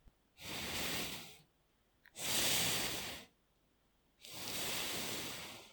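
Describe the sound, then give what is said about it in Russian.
A voice imitates a snake's threatening hiss to demonstrate the Russian 's' sound, tongue pressed against the front teeth: three long, steady hissing 's' sounds, each about a second long with short pauses between, bright and airy with no talking. “Кстати, на этот раз можно представить себя змеей, которая угрожающе шипит.”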